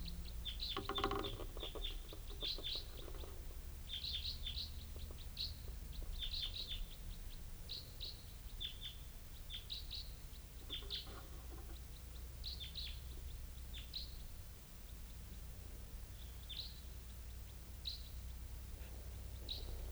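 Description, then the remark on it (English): A Type 4 bird calls repeatedly while flying over without stopping, giving short, high chirps in loose irregular bursts above a steady low rumble. No one speaks. “I think the bird just flew over, not stopping.”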